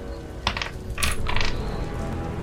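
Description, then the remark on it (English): Dice clatter across a hard tabletop in a few quick bursts of bright, rattling clicks, fairly loud, with no one speaking. “Alright, I rolled a 3.”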